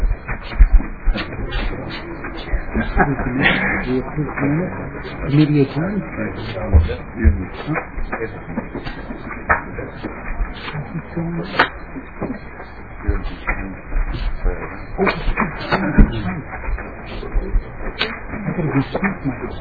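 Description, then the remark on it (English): Chairs scrape and knock as they are shuffled and dragged back at a House committee meeting, a steady clatter of bumps and thuds with indistinct voices murmuring underneath. “Now we are doing the shuffle back with the chairs.”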